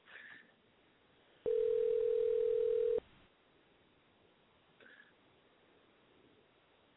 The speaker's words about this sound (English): And we want to get our main man on the radio show if we can again. Let me try one more time, see if he'll answer the phone.